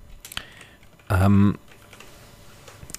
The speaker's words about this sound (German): Okay, also Zielgruppe, ich entschuldige mich schon mal, weil man jetzt von mir die Tastatur hört.